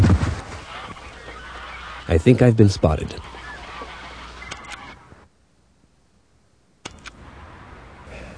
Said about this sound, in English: Diane, 6 a.m. Please add the following sound to my master tape labeled Sounds. Canadian geese, Diane.